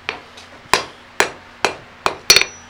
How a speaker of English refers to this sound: And when you hammer the anvil itself, every few hits, that's to clean off the hammerhead? No, it's actually more rhythm. Of a rhythm, but more than anything else, it's kind of a habit.